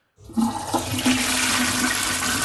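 A toilet flushes with a sudden loud whoosh of rushing water, then a steady turbulent gurgle and swirl that keeps going. Nobody speaks.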